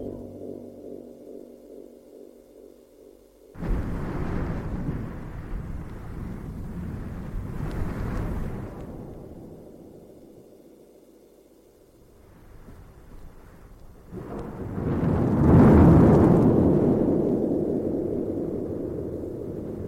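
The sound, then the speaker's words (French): A thunderstorm breaks out: after a quiet, low hum, a sudden loud crack of thunder breaks into a long, deep rumble that fades, then swells into a second heavy roll. There is no talking. “Un orage éclate, il pleut à grosses gouttes,”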